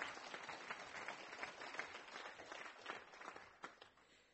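Audience applause: a dense, steady patter of many hands clapping at once, bright and sustained for several seconds with no voices over it.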